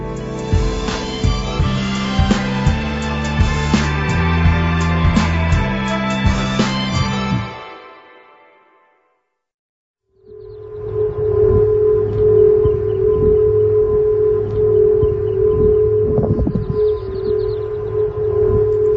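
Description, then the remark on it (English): After a musical passage fades into a brief silence, San Francisco's Golden Gate Bridge whistles in high winds in June 2020: a loud, steady, eerie tone held for several seconds over a rumbling wind-like wash, with no talking. “You're actually listening to a recording of San Francisco's Golden Gate Bridge making a whistling noise during high winds in June of 2020.”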